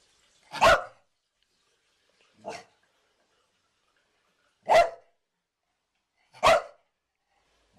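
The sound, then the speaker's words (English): A Puli dog barks in sharp, high-pitched yaps, about five of them spaced irregularly with silent gaps between; one bark is softer than the rest, and the final one is cut off at the end. “So the Puli has a loud, higher pitched bark that grabs your attention, but does not sound horribly threatening.”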